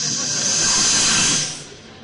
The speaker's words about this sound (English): And the more they try to get the snakes out by their mysticism, the louder the snakes hiss.